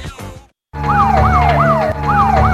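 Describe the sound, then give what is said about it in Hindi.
A siren on a police car with red lights yelps loudly as the car turns around, its rapid rising-and-falling sweeps repeating over a low engine rumble after a brief moment of silence. “लाल बत्तियां वाला सारे तो ताड़ी गड्डी मगर घूम गया, हुण की करोगे?”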